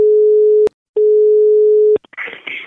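A steady telephone line tone sounds twice before a prank phone call on the radio, a long flat beep with a short gap between, cut off by a click and followed by noisy, muffled line sounds.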